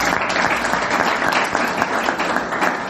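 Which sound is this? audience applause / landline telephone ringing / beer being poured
audience applause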